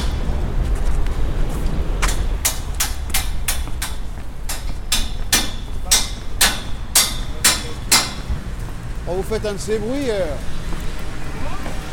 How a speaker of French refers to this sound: Vous faites un de ces bruits. Ah ouais? Ah ouais. Moi je suis voisin, j'habite au-dessus là. J'arrive pas à dormir là. Pour le coup de marteau? Ouais.